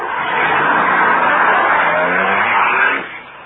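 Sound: car driving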